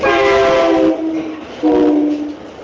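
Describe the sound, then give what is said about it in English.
A train horn sounds two loud, sustained blasts, the first about a second long and the second slightly shorter after a brief pause, with no one talking. “That train was really happy about what you said.”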